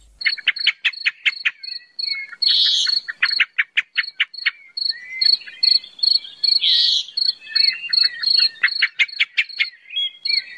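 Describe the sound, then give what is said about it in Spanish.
A blackbird sings alone and clear, with rapid repeated chirping notes, bright high whistles, and a couple of louder warbling flourishes; no one speaks. “algo menos agradable que el canto de los mirlos”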